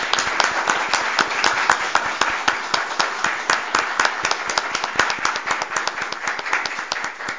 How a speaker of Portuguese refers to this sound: Eu vejo aqui pessoas da família lá. Eu gostaria que se levantasse. A gente pode fazer uma salva de palmas em nome do pai para as filhas que aqui estão? Ótimo.